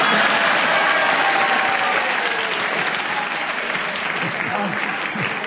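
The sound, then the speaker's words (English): A studio audience on a panel game bursts into sustained applause for a contestant's challenge, a dense, steady patter of clapping that stays loud throughout, with faint voices mixed into the crowd noise. “you're the only person in this Herbert plays this game who gets a round of applause for challenging.”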